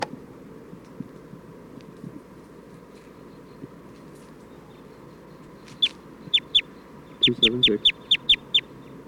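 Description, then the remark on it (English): A bird calls with a string of about ten sharp, high-pitched chirps that start partway through and repeat in a quick, steady rhythm over a low, murmuring background. “For recording, I'm still trying to get bird 277.”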